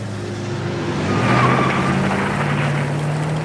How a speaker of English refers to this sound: The beige saloon reverses out of the car park of the cafe and heads down the road.